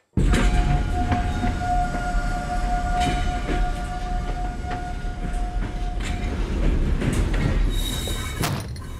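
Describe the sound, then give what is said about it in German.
A night train carriage travelling to Murmansk rumbles steadily along the tracks from inside, a deep continuous roar with a faint metallic whine and occasional clanks and jolts, with no voices. “Man hört's also rumpeln.”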